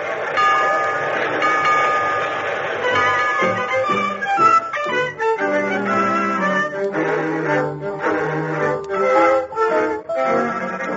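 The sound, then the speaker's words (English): A train sound effect pulling away at the start of the radio show Let's Pretend: a loud, sustained whistle-like chord gives way to rhythmic chugging pulses and shifting tones as it picks up, with no talking. “All aboard for Let's Pretend and the youth who learns to shiver and shake.”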